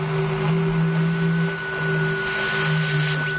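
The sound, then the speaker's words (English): Continuous radio static received from the planet Venus hisses throughout, layered with steady droning tones and a low hum, with faint wavering chirps drifting through the noise; no voices are present. “We've bounced signals off the moon's surface. There's no reason that Venus shouldn't radiate impulses. I don't mean the static.”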